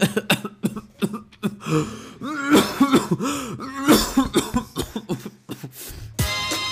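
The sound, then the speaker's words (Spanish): A voice imitates a raspy smoker's laugh, wheezy chuckles breaking into hacking coughs and throat clearing in a rapid, uneven run of bursts, fairly loud. “La fumadora.”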